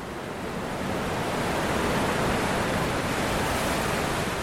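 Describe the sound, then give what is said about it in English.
A steady, dense roar of ocean surf rolls on without pause, swelling slightly after the first second and holding loud and broad, as big waves break on the beach at Whatipu on Auckland's west coast, at the mouth of the Manukau Harbour, after ocean swells smash into an offshore sandbar, on a fine morning. “Way out from the beach, ocean swells smash into a sandbar. The waves are still big by the time they reach the shore.”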